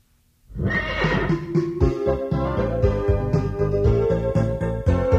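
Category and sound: animal, pony whinnying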